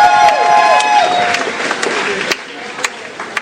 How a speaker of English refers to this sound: Okay, round of applause for Three Daughters, everybody, for putting this on.